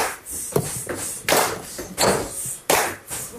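Four sharp metallic clanks strike in a steady rhythm, about one every three-quarters of a second, each bright and ringing over faint background noise, like forks being knocked together.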